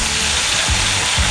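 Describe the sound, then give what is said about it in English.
Loud, steady sizzling as if food is searing on a hot grill, the station sizzle of 95.9 WATD radio, a dense crackling hiss that fills the short moment, with no voices. “Brought to you by Hingham Lumber on your station with the sizzle.”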